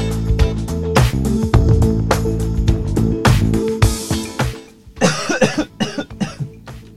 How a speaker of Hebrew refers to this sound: אני משתעל, אין לבריאות